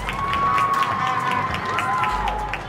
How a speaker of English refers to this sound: Clapping, a simple gesture repeated from balconies, rooftops and windows across the world to support those on the front lines of this pandemic.